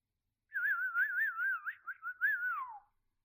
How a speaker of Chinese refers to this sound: 主人的口哨声就像是快感的开关，听见了主人的哨声，你的全身就会被快感充斥着、填满着。